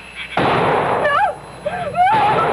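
gunshot

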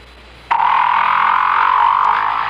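whale vocalization

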